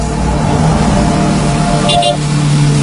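A motorcycle carrying two riders drones steadily on a road trip toward Central Java, Indonesia, with continuous road and wind noise, holding a constant loud hum throughout, with a brief higher whine partway through.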